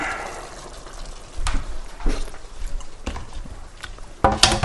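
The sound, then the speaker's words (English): Beans tipped into a pan, heard as a few irregular knocks and clunks, ending in a louder rattling pour with a faint sizzle underneath and no talking. “Turn that water off now and we'll tip the beans in.”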